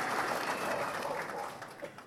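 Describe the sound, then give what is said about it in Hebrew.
A steady burst of applause, many hands clapping together in a dense, even crackle that holds at a moderate level for about two seconds before tapering slightly. “כפיים.”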